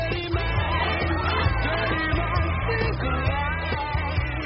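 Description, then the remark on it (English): A woman cheers loudly and continuously with excited whoops and yells, carrying on for several seconds without a break over a steady low rumble. “She's just really into cheering.”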